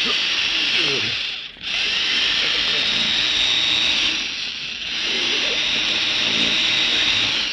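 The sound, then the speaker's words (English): In the radio drama Boston Blackie, a power drill drilling into a vault runs continuously with a loud, steady high-pitched grinding whine, briefly easing off twice before resuming at full strength. “The drilling out on the street will cover us.”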